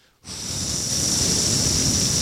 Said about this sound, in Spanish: ¿Tú sabes lo que es ruido blanco o white noise? Ahora mismo ese aire acondicionado es exactamente eso.